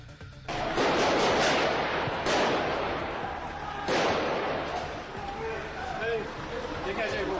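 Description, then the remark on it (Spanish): Gunshots and loud bangs from a police raid in the Molenbeek district of Brussels, Belgium, ring out, with three sharp blasts a couple of seconds apart and a dense, echoing din between them, muffled voices buried underneath. “Este es el sonido que nos dejaba la operación policial.”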